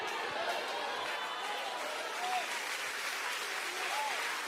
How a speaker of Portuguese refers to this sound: Misture essas palmas com glória a Deus e aleluia, aleluia.